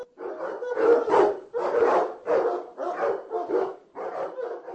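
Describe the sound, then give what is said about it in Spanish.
Several dogs snarl and bark in a continuous, rough scuffle as they fight over food scraps thrown to the floor by diners, the growls rising and falling in quick overlapping bursts, fairly loud with no voices present. “Los comensales echaban los restos de la comida al suelo, donde se los disputaban los canes.”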